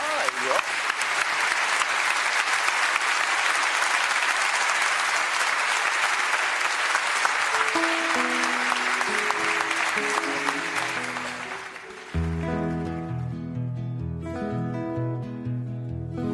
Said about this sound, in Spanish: les pido un fuerte aplauso para recibirla.